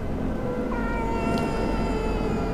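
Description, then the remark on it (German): A freezing, trembling cat inside an old, shabby box at a front door whimpers and meows in a drawn-out, plaintive cry that holds steady for a couple of seconds, clear, with no talking. “Ein Geräusch, ganz leislich. Ein Kratzen, ein Wimmern.”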